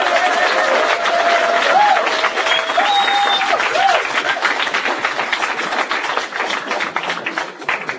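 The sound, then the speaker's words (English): A sustained burst of audience applause for the second-prize winner of a best performance award, dense and steady clapping from many hands with a few faint voices and whistles mixed in, tapering slightly toward the end. “Okay, give her a round of applause.”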